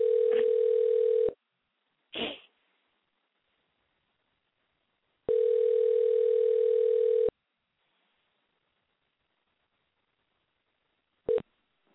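telephone dial tone

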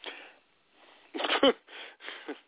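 dog sneezing

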